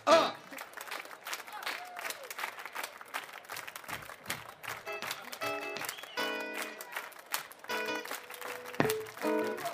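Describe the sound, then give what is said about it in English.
A crowd claps along in a dense, steady patter of many hands, while voices sing sustained notes over the clapping partway through. “You can clap, clap, clap.”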